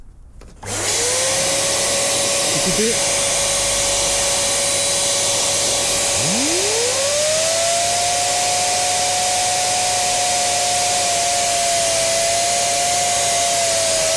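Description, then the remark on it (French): An electric fan whirs into motion, a steady rush of air with a motor whine that climbs in pitch, then a second spin-up midway that settles into a loud, continuous hum. “Voilà, ça, c'est quand je fais tourner le ventilateur avec la... L'appareil.”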